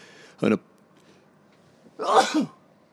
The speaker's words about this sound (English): I'm going to sneeze. No, hang on.